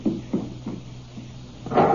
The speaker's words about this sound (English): I opened the car door. The keys were in the ignition. I jumped in.